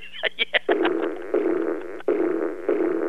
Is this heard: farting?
yes